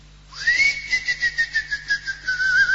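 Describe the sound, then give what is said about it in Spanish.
A person whistles to lure a cricket out: a single sustained high note that rises at the start, then wavers in a steady pulsing warble for a couple of seconds, fairly loud, with no talking. “No, pero así se va a meter para adentro, porque soy yo el que silba.”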